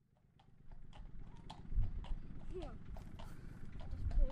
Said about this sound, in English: Oh, the horse just pooed? Mm, yeah. Yeah, he got no manners at all, have they?